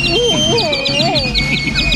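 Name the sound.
canaries chirping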